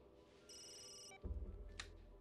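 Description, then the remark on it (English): A mobile phone lying on the floor beside a bed rings with a short burst of bright electronic ringtone tones, then stops abruptly, giving way to low rumbling and a brief shuffling noise. No one speaks. “She turns towards the ringing mobile on the floor on the safe side of the bed.”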